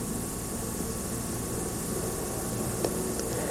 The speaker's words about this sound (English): Pausing because of that airplane.